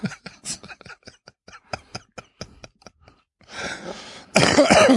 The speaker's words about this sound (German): Oh, Entschuldigung. Ich höre gerne Leute in mein Ohr husten. Ja, es tut mir leid.